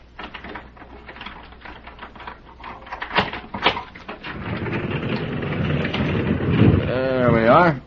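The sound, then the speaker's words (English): A lock is taken off a stable door, rattling and clicking in a quick, irregular run of metallic taps, then the heavy stable door scrapes open with a louder rumble, ending in a high, wavering hinge creak. “I have to get the lock off first.”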